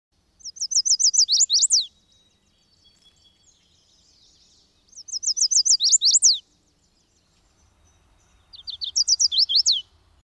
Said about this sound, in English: While you're at the forest edge, listen for the song of the chestnut-sided warbler. Please, please, please to meet ya.